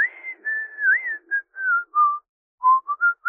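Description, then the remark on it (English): A man whistles a bright, wandering tune as he bustles to the back of a bakery. It is a string of clear sustained notes that slide and pause, with a short break before a few quicker phrases resume. “Jane's dad whistles as he bustles his way to the back of the bakery.”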